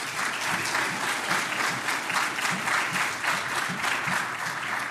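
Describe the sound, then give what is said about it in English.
A room full of people at a church preaching conference, the Red Hot Preaching Conference, claps steadily and loudly for a birthday, dense overlapping applause sustained throughout without pause, with no one speaking over it. “Everybody give him a round of applause there.”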